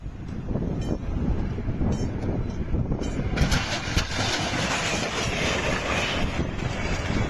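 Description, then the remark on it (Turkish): A passenger train on the Eskişehir–Denizli route rumbles through a level crossing in İhsaniye, Afyonkarahisar, Turkey, and strikes a truck stuck on the crossing: a heavy continuous roar that swells with a harsh, bright metallic grinding about halfway through, loud and steady throughout with no voices. “Yolcu dolu tren tıra hızla çarptı.”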